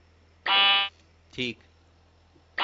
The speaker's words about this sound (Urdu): Buzzer check کروائیں.